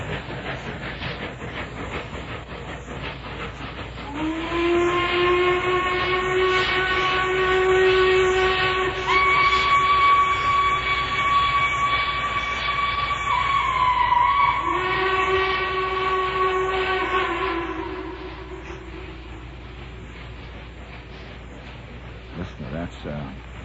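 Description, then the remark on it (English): A train rumbles steadily past while its whistle sounds two long, sustained blasts, the second following a brief pause, loud over the continuous rolling noise. “Listen to that train just rolling on and on and on.”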